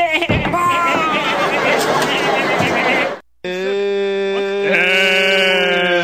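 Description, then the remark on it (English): A lamb bleats loudly twice, split by a brief silence: first a harsh, rough cry, then a long, steady, wavering bleat that holds its pitch to the end. “This lamb is one of a new kind of sheep that has been bred to hunt wolves and is extremely dangerous.”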